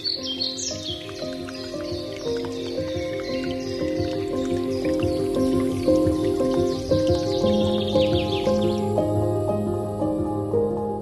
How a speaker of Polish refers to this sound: my stoimy sobie na ganku, bo trochę pada deszcz